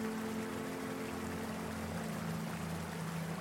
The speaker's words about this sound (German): Hinter dir hörst du das Säuseln vom Fluss.